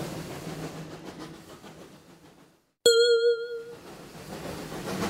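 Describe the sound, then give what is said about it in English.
A train driven by Goofy rumbles steadily along the rails, briefly cuts out, then a single bright bell-like ding rings out before the rolling clatter resumes. “Stop the train, Goofy!”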